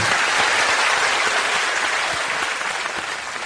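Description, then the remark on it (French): An audience on the Presque Late Show applauds its live segment steadily, a dense wash of many hands clapping at once, loud and sustained before easing slightly toward the end. No voices are heard. “Je dis place au live, sous vos applaudissements, le live du Presque Late Show.”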